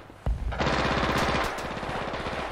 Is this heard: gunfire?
yes